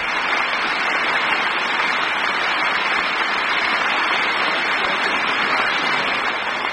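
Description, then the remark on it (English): Sustained applause from a large crowd in the US House of Representatives chamber as Lieutenant Colonel John Glenn of the United States Marine Corps appears, a dense, steady wash of clapping that holds at an even, loud level throughout without pauses or voices breaking through. “the announcement that Lieutenant Colonel John Glenn of the United States Marine Corps had just appeared in the House chamber, and we probably won't be able to hear too much other than applause from now on, so let's listen to it for a little while.”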